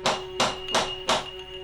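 Four firm knocks on a street door, evenly spaced in a steady rhythm, each one sharp with a short ringing decay, alone with no voices.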